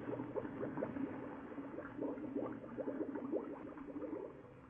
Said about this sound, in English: I need air. I'm choking. Valve bubbles. They're slowing up